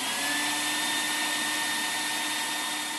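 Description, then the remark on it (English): A CNC router, a computer-controlled power tool that cuts wood, plastic and some metals, at a library's Maker Station runs steadily, its high motor whine and hissing cutting noise holding constant for the whole stretch, fairly loud with no voices. “And now those facilities include a CNC router, a computer-controlled power tool that cuts wood, plastic, and some metals.”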